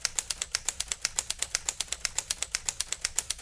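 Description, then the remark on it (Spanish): Rapid, steady clacking of typewriter keys, each strike sharp and bright, about eight per second in an even rhythm, fairly loud with no voices. “La pieza de la historia de la máquina de escribir es una pieza que a futuro va a ser arqueológica, ¿no?”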